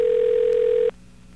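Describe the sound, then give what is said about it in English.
A single steady telephone ringback tone hums for just under a second, then cuts off, leaving a quiet, faintly hissing line with no answer, as a call to a radio station goes unanswered. “and I'm not picking them up, and I'm ringing another radio station, and they're not picking up.”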